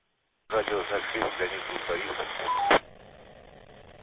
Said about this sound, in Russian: Ребят, не понял, очень слабая модуляция. Сигнал мощный, мощный, но модуляция, как говорится, на заднем плане.